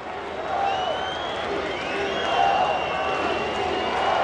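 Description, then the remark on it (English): A baseball crowd at Seattle's Safeco Field cheers and roars steadily as Ichiro Suzuki comes out of the dugout to hit, with a dense wash of voices, some whistles and scattered clapping, swelling louder midway and staying loud throughout. “Fans at Seattle's Safeco Field have had little to cheer about this year, but when Ichiro Suzuki comes out of the dugout to hit, the crowd goes wild.”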